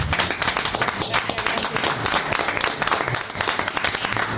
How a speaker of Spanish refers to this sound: Un aplauso para ella.